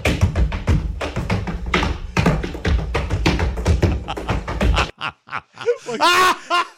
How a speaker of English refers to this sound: It is a guy holding a woman upside down, walking around the living room, and she is slamming her feet up and down on the ceiling.